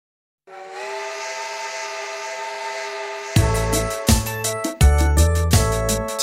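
A steam train blows a long, steady whistle, then loud rhythmic chugging bursts start up as it gets moving. No one speaks.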